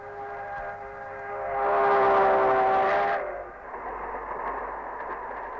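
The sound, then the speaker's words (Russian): A sustained train whistle blows for about three seconds as a train rumbles past, swelling louder mid-way, then fading to a steady rolling clatter of wheels. “А как вспомню 45-й год, год Победы, снова в глазах поезда. Только едут солдаты домой.”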